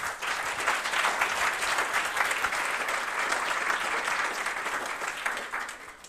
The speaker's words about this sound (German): Ja, dann danke für die kurzen Eindrücke und dann sind wir auch schon bereit für die nächste Gruppe. Applaus nochmal.